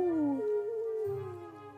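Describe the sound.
A person imitates an owl's hoot with one long, smooth, low-pitched vocal tone that slides gently downward and fades slightly over about two seconds.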